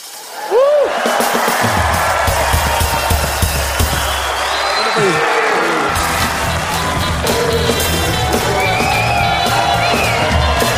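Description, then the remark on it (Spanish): A large crowd erupts on a count of three into loud, sustained shouting and cheering, with whoops and yells rising over a dense wall of voices that stays strong for about ten seconds. “A la cuenta de tres todos gritan un huevo, ¿okay?”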